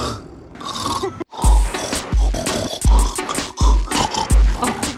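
A man snores loudly to the tune of a song, the rasping, guttural snorts falling into a song-like cadence over a steady, thumping low beat, with no talking.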